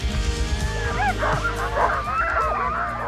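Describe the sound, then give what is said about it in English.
Many sled dogs barking and yipping together in an excited, overlapping chorus with high whines, continuous, over a low steady rumble, recorded on an iPhone while dog sledding in Alaska. “But I did take a couple iPhone videos while we were out.”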